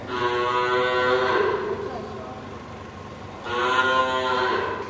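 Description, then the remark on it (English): A cow moos twice, long drawn-out harmonic calls separated by a pause, loud, over a steady hum of street noise, standing on a busy city road in India as drivers maneuver cars and scooters around it. “Drivers carefully maneuver their cars and scooters around the cows that stand stubbornly in the center of busy roads.”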